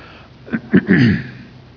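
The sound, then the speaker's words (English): Two quick, sharp coughs followed by a longer, rougher voiced cough, moderately loud and heard alone without any talking. “excuse me for the cough, I've got that tickle right now.”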